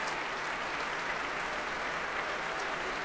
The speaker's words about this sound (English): The members of the São Paulo Symphony Orchestra applauding Nelson Freire as he returns to the front of the platform.